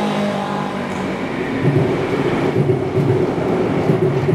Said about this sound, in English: Train going by overhead. Yeah, I decided to just follow the train line, just to walk under the actual train line.